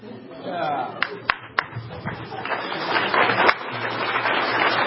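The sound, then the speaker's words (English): A handful of sharp, scattered claps ring out over a steady murmur of many voices and general crowd commotion, with no sustained rhythm of applause, at a congressional committee hearing on Capitol Hill with Dr. Kissinger. “Yeah, I'm clapping too.”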